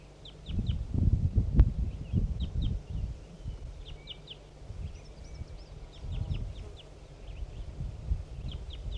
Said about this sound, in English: Some wild crossbills are coming in again. Here comes one. Must be that same female.